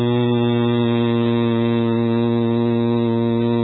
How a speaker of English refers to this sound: The sound hum, for example, resonates mainly in the lungs. And again, the way you make it is you take a deep breath. Hum.